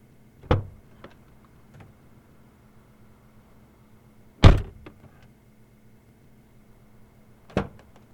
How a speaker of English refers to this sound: Hold on just a second, and I'll open up the car door for you.